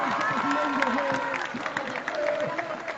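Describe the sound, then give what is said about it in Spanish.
Loud, sustained audience applause for Doctor Sandoval at a political rally in Chilpanchín, Mexico: a dense wash of many hands clapping steadily for three seconds, with voices shouting and talking over it. “A darle un aplauso fuerte al doctor Sandoval, que está aquí con nosotros.”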